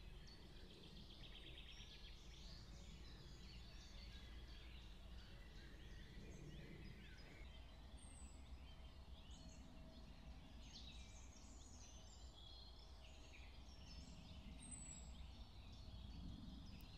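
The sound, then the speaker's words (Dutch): Several small birds chirp and sing in overlapping, busy phrases over a steady outdoor background hiss and low rumble, with no one talking. “Je hoort ieder vogeltje zijn of haar eigen lied fluiten.”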